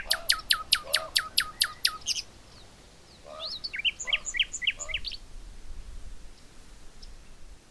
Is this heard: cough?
no